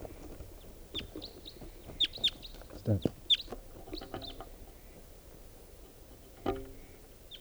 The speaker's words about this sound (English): 11:32 now. There's another wild bird coming in.